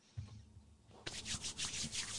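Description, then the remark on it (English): A soft low thump as liquid hand sanitizer is pumped from a little pump bottle in a studio, then hands rub together briskly, a rhythmic, breathy swishing that repeats steadily for about a second. No one speaks. “I got a little pump bottle of liquid hand sanitizer.”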